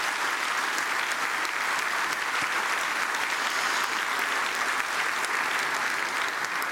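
Sustained audience applause fills the room, a dense, steady wash of many hands clapping at once for a speaker before a Q&A, loud and continuous for several seconds with no talking over it.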